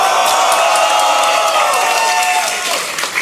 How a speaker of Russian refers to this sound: дайте шума!